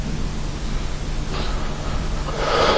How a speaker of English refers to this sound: That's me breathing.